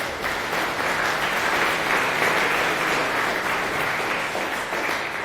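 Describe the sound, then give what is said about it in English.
An audience applauds steadily for a speaker just introduced to give a talk on building a digital inventory with NixOS modules: a dense wash of many hands clapping at an even, loud level throughout without a break, with no voices standing out. “So a round of applause for Wojta, and thank you very much.”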